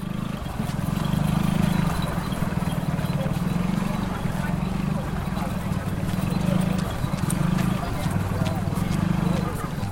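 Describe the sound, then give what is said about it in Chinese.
Many feet of a large crowd of pilgrims following the Mazu procession hurry along in a dense, steady patter, a continuous rush of quick footsteps, loud, with a murmur of voices mixed underneath. “你可以仔细听，你应该听得到大家的脚步声都非常的快速。”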